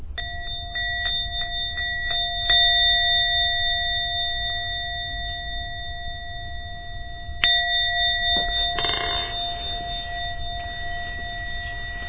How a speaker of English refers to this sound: I'm going to ring the bell a few times and then you can come out of your meditation.